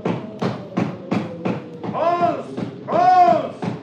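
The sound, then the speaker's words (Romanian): Five steady, evenly spaced knocks on a door, firm thuds about a third of a second apart, followed by a voice calling out twice in drawn-out, pitched cries. “Suflă vântul de parcă ar bate cineva în ușă.”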